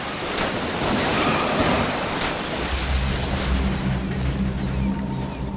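Loud, foaming ocean waves of the North Pacific churn in a steady, broad wash, and partway through a low droning rumble joins underneath. No one speaks.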